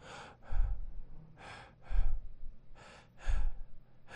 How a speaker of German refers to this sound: Dass man dich immer wieder leise atmen hört.